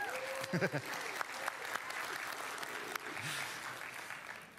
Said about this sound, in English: I'm gonna have my wife come up here and have the honors. Give her a round of applause.